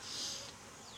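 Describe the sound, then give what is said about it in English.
A dense, steady hum of many honeybees buzzing around an open hive while its frames are inspected, a continuous swarm-like drone with a slight swell in the first half, no voices present. “There's a lot of bees kind of piled up here, but they usually don't, you know, we usually don't find a, sometimes if you got a runner, you can find a queen up there like that”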